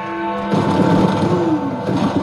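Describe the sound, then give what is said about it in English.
A sustained tone hangs in the air, then a sudden loud burst of booming fireworks breaks in and continues as a dense, rumbling wall of explosions: a large New Year's midnight firework display, with the Big Ben bell ringing. “You can hear the fireworks.”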